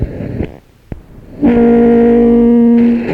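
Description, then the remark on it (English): A train horn, blown on request from aboard the train, blasts once: a loud sustained tone with stacked harmonics holding steady for about a second and a half before cutting off, after a brief bit of murmur and a click. “Oh my goodness, that's a loud horn, isn't it?”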